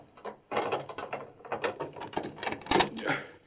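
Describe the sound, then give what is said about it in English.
Metallic clicking and rattling of a latch mechanism, a key turning and a bolt sliding back on a locked door, followed by the creak and clunk of the door swinging open, fairly loud. “I wasn't going to open the door until I was pretty sure who it was.”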